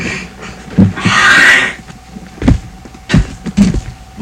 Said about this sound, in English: I wonder if we could close the door so the noise from the kitchen wouldn't come out here. Would that be all right?